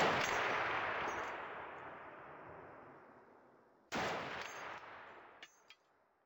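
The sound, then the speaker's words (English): Two heavy gunshot blasts, each rolling away in a long echoing tail, followed by a couple of faint pops, like gunfire in a war zone. No voices. “Does trying to learn Italian ever make you feel like you're in a war zone?”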